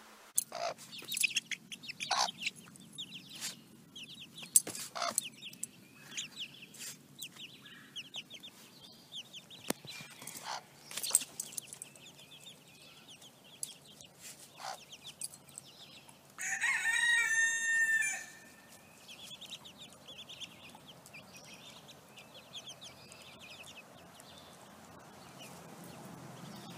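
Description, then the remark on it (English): A mother hen clucks softly and steadily while her chicks peep in short, scattered bursts. Midway, a rooster crows once in the background before the quiet clucking resumes. “The way the mother hen covers her chicks under her wings.”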